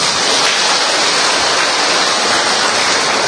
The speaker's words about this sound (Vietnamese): Thưa anh chị em, trước tiên chúng ta cùng vỗ một tràng pháo tay thật lớn.